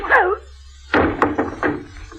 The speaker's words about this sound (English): What did you have to hit him for?